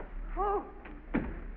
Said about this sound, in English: Locking the door.